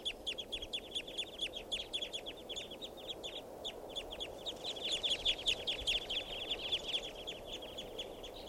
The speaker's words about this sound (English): And I see a flock in the tree right above me here. So, it's recording some wild birds. Flock is calling now.